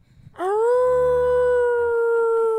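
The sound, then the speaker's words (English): A man imitates a coyote with a single loud, sustained howl that swoops upward and then holds a steady, wavering pitch for about two seconds. No one speaks over it. “And he does coyote noises.”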